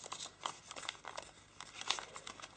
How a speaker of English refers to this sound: And then I'm aligning edge to edge to get a straight crease. Now let's unfold that. And then we'll open the paper and completely fold along that crease line.